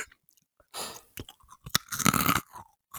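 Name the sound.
crunchy snack being chewed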